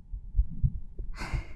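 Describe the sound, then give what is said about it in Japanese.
A muffled heartbeat thumps low and heavy a few times, and a soft breathy exhale rises near the end. “ドキドキしています。”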